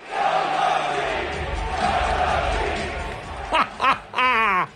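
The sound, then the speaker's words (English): A large arena crowd at a New York Knicks basketball game on Wednesday night roars in a steady, dense wash of voices, then breaks into a rhythmic chant of "sell the team" with distinct shouted syllables near the end, loud and sustained. “They're yelling, sell the team.”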